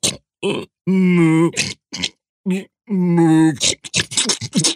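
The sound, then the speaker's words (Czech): A voice imitates a dragon snoring loudly at night while sprawled on a narrow rock ledge: long, deep, groaning snores with short snorts between them, then a quick run of rough, breathy sputters. It is unaccompanied. “Rozvaloval se na římse a chrápal jak nachlazená kráva.”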